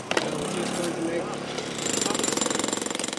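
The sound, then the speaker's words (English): Jackhammers pound large holes into a roof during a rescue search for children trapped under the rubble. The loud percussive hammering comes in rapid, steady bursts that turn into a fast regular rhythm, with voices faintly audible underneath. “Jackhammers pound large holes into the roof and then cameras are inserted.”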